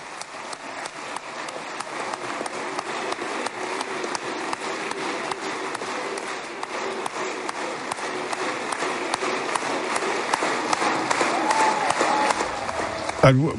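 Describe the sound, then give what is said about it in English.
Sustained applause in the Israeli Knesset for Prime Minister Benjamin Netanyahu. A dense, steady patter of many hands clapping lasts for over thirteen seconds, growing slightly louder toward the end, with faint crowd murmur underneath. “A round of applause, rounds plural of applause, now reaching Benjamin Netanyahu, surrounded by loyalists in the Israeli Knesset.”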